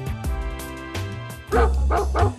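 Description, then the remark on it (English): A dog barks several times in quick, uneven bursts, loud, over a steady musical backing, with the barks growing denser and rougher toward the end, in an advertisement for The Barking Lounge, a Seattle dog daycare and overnight boarding facility. “The Barking Lounge is Seattle's premier dog daycare and overnight boarding facility.”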